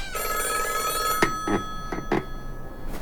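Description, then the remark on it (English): An old black hardline telephone with a rotary dial, sitting on the counter in the lobby of a long-empty lodge, rings with a sustained, metallic trill, then breaks off into a few short, clattering bursts of ringing. It is clear, with no voices. “It was a hardline phone, an old one, black, with a rotary dial rather than a keypad.”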